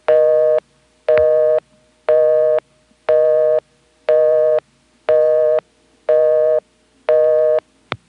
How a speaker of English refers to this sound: When I dialed the number of the phone I was calling from, I didn't get anything fancy like a ringback, just a normal busy.